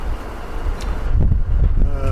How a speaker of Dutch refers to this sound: Zo, lieve luisteraar, dat was het geluid van een enorme diesel. Het is waarschijnlijk niet te verstaan nu, of nu wel misschien. Wat je zojuist hoorde was het geluid van een enorme diesel. En we zijn los van de kade, we zijn nu aan het varen.